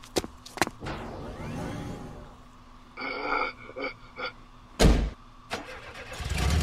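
In a video game, a car door clunks, then an engine cranks in short bursts and turns over, rising into a steady rumble as a man drives the car away; no talking.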